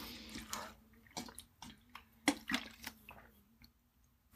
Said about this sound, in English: Gonna get a little drink of water here.